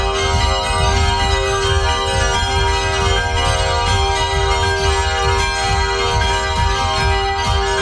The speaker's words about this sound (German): Aber heute darf nun wieder kräftig geläutet werden und das nicht nur im Glockenmuseum der Herrenberger Stiftskirche.